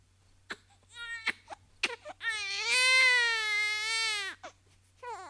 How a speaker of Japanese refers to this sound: 勘弁してよ。また赤ちゃんが増えた。ほんと泣き止ましてよ。 声でけえよ。